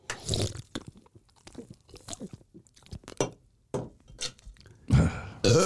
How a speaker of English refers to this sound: Sorry, can I belch again before we start? No, please don't. Hang on.